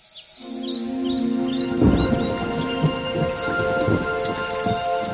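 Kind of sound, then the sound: nature, heavy rain with thunder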